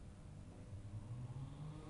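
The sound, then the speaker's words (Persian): The engine of a latest-model Benz car rumbles steadily, its low hum rising slightly toward the middle as if revving gently, with no voices over it. “قرار شد یه ماشین بنز آخر سیستم به عنوان جایزه بدن”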